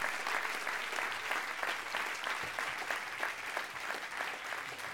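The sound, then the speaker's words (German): Sustained audience applause for a winner: dense, continuous clapping from many hands, loud and steady throughout with no voices standing out. “Ein riesen Applaus, wo ist er?”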